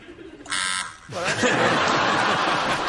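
A single loud, flat electronic quiz buzzer blares for about a third of a second, then a studio audience breaks into sustained laughter and chatter.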